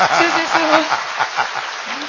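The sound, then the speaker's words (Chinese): An audience claps steadily, a dense, crackling wash of applause lasting about two seconds, with faint voices murmuring beneath it. “看看你们是主人，你们大家想想，天天吃着人家的饭，鼓鼓掌，鼓励鼓励人家。”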